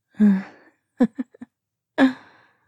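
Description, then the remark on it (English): Heavy, voiced gasping breaths: one long gasp, a quick stuttering run of short panting breaths, then another strong gasp, separated by brief silences, with no talking. “Well, it looks like you're breathing a lot more quickly.”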